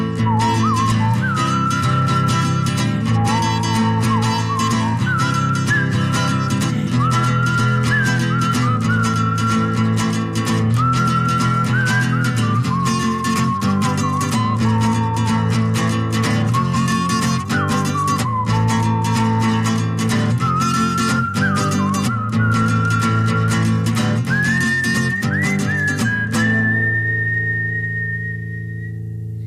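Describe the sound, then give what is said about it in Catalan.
Someone whistles a flowing melody over a steady instrumental backing, clear, phrase after phrase for about half a minute, ending on a long sustained note as the music fades. “També sap xiular així de bé.”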